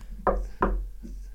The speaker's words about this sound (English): I'm knocking on your door. Oh, you're okay. What are we doing? We're literally knocking the tables and visible.